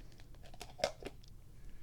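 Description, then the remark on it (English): A cat named Pippa attacks paper napkins lying on the floor; they crinkle and rustle in soft, irregular bursts, with one sharper crunch partway through; fairly quiet, and no one speaks. “Oh, she's attacking the napkins, the paper napkins that are sitting on the floor.”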